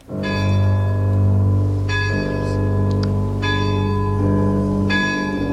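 The great clock of a château strikes the twelve strokes of midnight at night in slow, regular tolls, each deep ringing stroke overlapping the long humming decay of the one before. Loud and resonant, with no voices.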